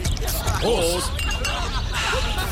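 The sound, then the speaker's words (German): Glasses clink together in a toast, a bright ringing chime over a busy wash of background noise and voices from a lively crowd. “Prost.”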